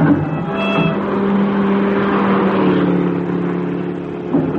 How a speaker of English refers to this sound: Did you see that car? What car? That one that just passed with that extraordinary horn.